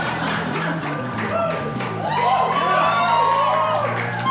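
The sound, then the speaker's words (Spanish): A live crowd claps and cheers in a dense, continuous wash of sound, with high whoops and shouts rising over the applause midway through and growing slightly louder toward the end. “Mae, ¿a quién le aplauden un comercial, weón?”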